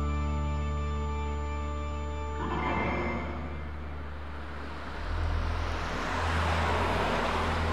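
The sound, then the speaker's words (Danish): A car approaches and drives past on a road in the middle of the night, its engine and tire noise swelling into a broad rushing roar that stays loud toward the end, with a low engine hum underneath. “Fra klokken 1 kører der cirka 2-3 biler forbi i timen.”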